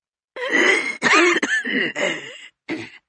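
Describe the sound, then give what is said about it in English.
A rough, phlegmy smoker's cough from a voice on a phone, fairly loud: a run of about five harsh hacking bursts with brief catches between them, with no talking. “The voice pauses for a rough smog cough.”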